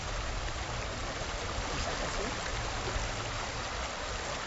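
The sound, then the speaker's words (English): A steady, unbroken rush of flowing creek water, even in loudness throughout, with no distinct splashes or pauses; the creek carries down silt and sand and deposits it in changing wavy patterns. “That's because it's just natural for the creek to bring down silt and sand when it comes.”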